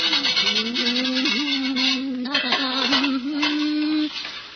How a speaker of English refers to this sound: As our story begins, we find Teresa busily at work in the kitchen, scrubbing some pots, the remnants of the evening meal.